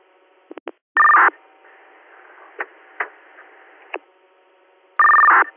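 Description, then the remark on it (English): Radio dispatch paging tones calling for manpower for an engine, unit Brush 21: two loud, steady tone bursts about four seconds apart, separated by faint radio static with a few sharp clicks, and no one speaking. “You can do one more set of tones for manpower for the engine.”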